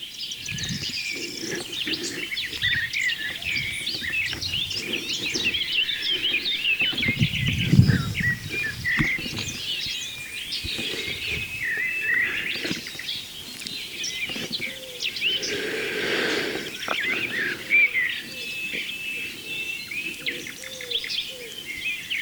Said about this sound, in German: Aber Ringeltaube, ich vermute, dass Männchen und Weibchen rufen.